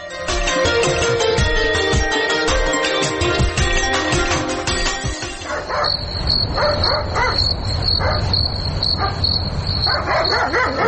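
A dog barks several times at irregular intervals over a steady high insect-like trill, after a few seconds of dense, busy noise.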